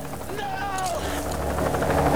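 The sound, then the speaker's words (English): An Australian police helicopter comes into view overhead, its rotor and engine noise loud and continuous with a heavy low rumble, while a faint voice-like tone briefly rises and falls through the din. “looks up and sees an Australian police helicopter hove into view.”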